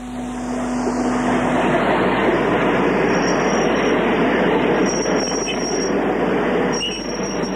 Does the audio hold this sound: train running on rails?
yes